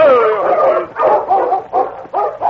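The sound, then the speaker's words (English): A dog named Happy barks and whines in a rapid, excited series of yelps, with rising and falling whimpering tones between sharp barks, loud and insistent throughout. “Dog is plumb foolish, Sergeant.”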